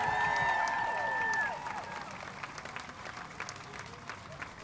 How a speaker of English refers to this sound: Thank you. One more round of applause for all of our speakers.